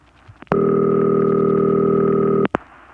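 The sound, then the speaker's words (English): A single steady, buzzy telephone ring tone of the old Bell system City Ring type sounds loudly for about two seconds, framed by faint line clicks before and after, with no voices. “That's called City Ring.”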